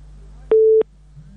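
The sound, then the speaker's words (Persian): A single steady electronic beep of a telephone busy tone after a listener's phone call dropped, clear and fairly loud, lasting about a third of a second over a faint low hum, with nothing else following. “تماس دوست ما قطع شد.”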